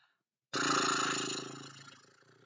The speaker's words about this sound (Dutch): En nu met een paardenadem.